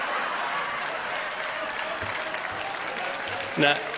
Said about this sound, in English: For those of you that are going to listen to the audio recording of this, I'm tearing money and they're clapping.